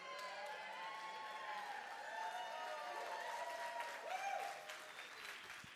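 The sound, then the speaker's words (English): A crowd applauds steadily for several seconds, a dense wash of many hands clapping at once, with a few whoops and cheers rising through it. “You're feeling real bad right now if you're not clapping, like, oh, yeah.”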